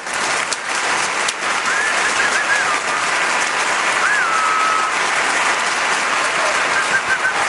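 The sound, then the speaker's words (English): Steady, dense applause from an audience fills the whole stretch, a constant crackle of many hands clapping, with a few thin, high whistles rising above it now and then. “Give it up for ….”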